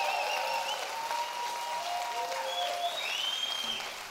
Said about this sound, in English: And I'm talking about the biggest roar possible for Jesus, the one who makes this all possible. Let's give him a hand and a shout of praise. Come on.